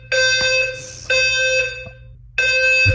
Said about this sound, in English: Do I have any legal rights to the fire alarm going off in the middle of the night all the time? Like, this is actually insane.